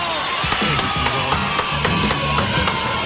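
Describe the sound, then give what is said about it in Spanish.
An audience applauds a kiss with steady, dense clapping that fills the whole moment, mixed with cheers and whoops from the crowd, staying fairly loud and even throughout. “¡Aplauso!”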